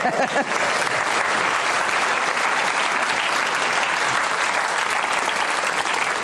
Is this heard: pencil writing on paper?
no